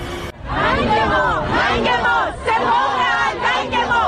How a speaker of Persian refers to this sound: اما تظاهرات با شعارهایی علیه سپاه پاسداران ادامه دارد.